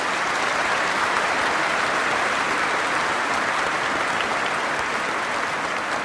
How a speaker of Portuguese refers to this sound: Peço uma forte salva de palmas aos nossos leigos e leigas.